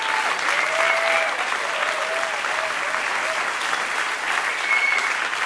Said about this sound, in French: Des applaudissements chaleureux et nourris pour ces deux magnifiques musiciens.